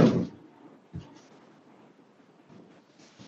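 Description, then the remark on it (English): A door shuts with a solid thud, followed a second later by a softer knock as it settles, then faint rustling. “You know, let me get close the door.”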